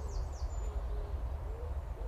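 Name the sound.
wood pigeon cooing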